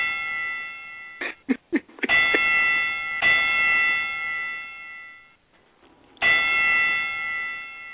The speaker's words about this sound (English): Joe Frazier, since there's five cats in the war room, you know, we got to give Joe our five bell salute real quick. Bell taking too long.